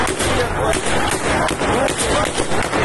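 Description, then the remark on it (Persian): Police gunfire cracks out several times at irregular intervals amid a loud, chaotic crowd of protesters throwing stones in front of Police Station 16 in Zahedan, Iran, with shouting voices and constant commotion filling the background. “معترضان سنگ زدند، نیروهای پلیس گلوله.”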